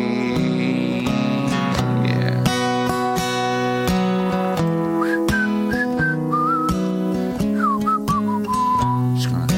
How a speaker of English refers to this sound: Whistling for something, for the melody, yeah.